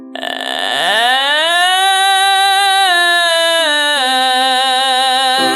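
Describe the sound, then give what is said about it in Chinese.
A single voice does a vocal fry voice exercise: it starts in a low, crackly vocal fry that glides upward and smooths into a loud, steady sustained tone, with a few small pitch steps, held for about five seconds without words. “请你用气泡音这样练。”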